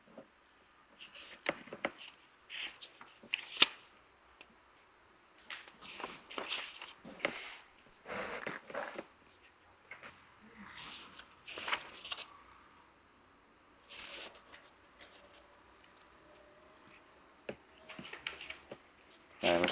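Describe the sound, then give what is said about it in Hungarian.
Pages of a book being turned and shuffled, a series of soft papery rustles and flicks coming in irregular bursts, with quiet pauses between and no one talking. “És lapozatok, itt van egy megjegyzés.”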